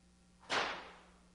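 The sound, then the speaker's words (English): A single sharp whip crack snaps out, a bright burst that fades quickly into a short ringing tail over a faint low hum, with no voices around it. “Are you hearing Hosannas, or are you hearing a whip?”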